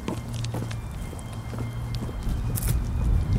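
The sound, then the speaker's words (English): Wind whips around an apartment building in a residential complex in a steady, rushing roar, with a low drone and scattered footsteps underneath as someone heads for the building door, growing slightly louder toward the end. “And into the complex I go, where it's a little windy because the wind whips around the whips around the apartment building. Which you can hear now.”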